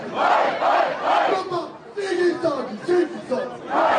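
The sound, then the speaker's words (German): A large crowd celebrating a German championship title cheers and chants in rhythmic surges, voices swelling together in loud repeated bursts with a dense wash of shouting throughout, as the players celebrate on a stage. “Abseits von all dem Jubeltrubel stand Geschäftsführer und Macher Bob Hanning mit einem Lächeln im Gesicht.”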